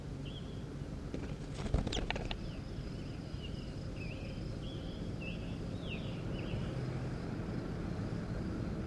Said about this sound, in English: Start recording. Here goes bird 14.